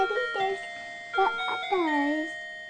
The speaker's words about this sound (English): And that thing just had to get in on the show somehow, didn't it? Dad! Just couldn't resist it, that clock.